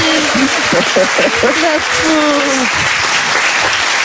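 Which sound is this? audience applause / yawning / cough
audience applause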